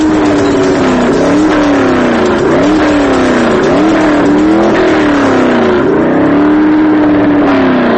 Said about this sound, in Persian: تو شهرهای بزرگ مثل تهران خودروها آلوده کننده ترین عامل حریم شنوایی ما هستن.